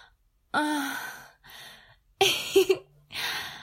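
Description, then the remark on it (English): A small, sharp gasp with a brief voiced catch, followed by a few soft, breathy exhales and sighing breaths in short bursts, with no words spoken. “That little gasp.”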